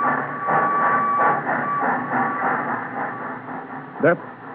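A train carrying tobacco to the port of Balawan in Sumatra rolls past, its steady rumble broken by rhythmic clacking of wheels, with a thin sustained whistle tone and a brief sharp whistle burst near the end.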